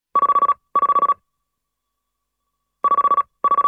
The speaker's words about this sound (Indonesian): Telepon tangan Humala berdering. Diliriknya monitor. Yayasan Timor. Dimatikannya telepon itu.